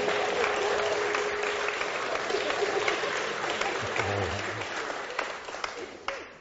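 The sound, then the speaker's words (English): Sustained applause from a large indoor group after a baptism, dense and steady at first, then gradually thinning out toward the end with a few scattered final claps. “Well, I think that deserves a clap for her, don't you?”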